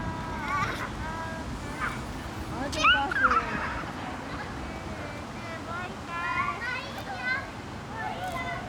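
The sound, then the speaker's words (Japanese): Children playing tag in a plaza at West Park shout excitedly, with a few high squeals rising above a steady wash of background noise. “広場では子供たちが鬼ごっこをしています。”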